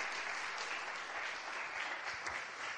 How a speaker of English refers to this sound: Yeah, we can give clap. We can give God a clap for his mercy and his grace.